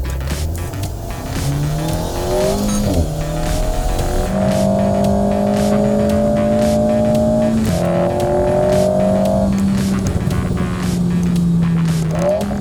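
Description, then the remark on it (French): A mid-rear-engined sports car with a 1800 cc turbo engine of 252 hp, weighing 1100 kg with an aluminium body, revs and pulls hard through the gears, rising pitch with quick shift breaks, loud, with a faint tire squeal in places and no talking. “Côté moteur, on a un 1800 cm3 turbo de 252 chevaux. Le moteur est central arrière avec seulement 1100 kg sur la balance.”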